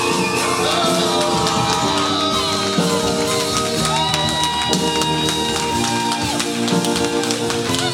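A church audience applauding and cheering loudly and steadily as the preacher is welcomed on stage, with scattered shouts and whoops rising above dense clapping and sustained tones running underneath.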